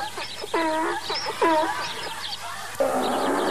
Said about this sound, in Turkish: Ayıbettin hocam, eşek ağırda anırıyor, bana yok diyorsun.